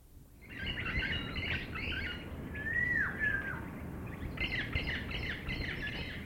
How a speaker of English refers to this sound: An aviary is an ideal environment not only to see birds, but to hear them as well.